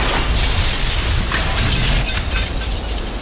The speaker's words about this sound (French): Alors, avec toute la dextérité qu'on lui connaît, Henri Guillaumet s'apprête à poser son monomoteur au bord du lac. Les roues touchent le sol et se bloquent. L'avion capote.